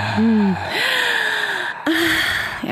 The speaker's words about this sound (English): Oh, we can do some real heavy breathing here, baby.